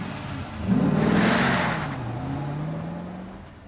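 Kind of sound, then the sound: vehicle, car peeling out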